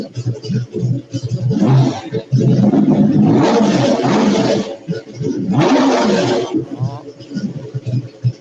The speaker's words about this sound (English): Like I said, I think it sounds a little bit like a cup car. And it does.